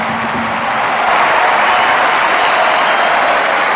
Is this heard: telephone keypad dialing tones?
no